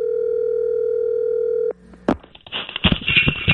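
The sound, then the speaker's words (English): A steady telephone dial tone hums for nearly two seconds, then cuts off with a click, followed by a short burst of dialing and busy, crackly line noise as a number for Santa's workshop at the North Pole is called. “It is time now to call the North Pole. We have a number for Santa's workshop.”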